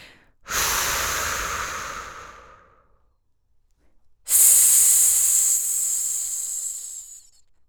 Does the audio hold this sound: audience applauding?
no